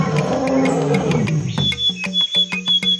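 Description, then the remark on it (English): A tiger gives a deep, rumbling, loud roar lasting about a second and a half before it gives way to a short, rhythmic run of bright musical notes. “Is there any living thing more awesome than a tiger?”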